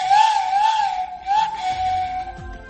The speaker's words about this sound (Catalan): a Sitges, on les anomenaven flauta de caçar mussols, a Reus, a Riudoms, a Margalef, a Santa Coloma de Queralt, també utilitzat, com no podia ser d'altra manera pels nois com a joguina, anomenada xiulet de canya, a l'Alt Priorat també.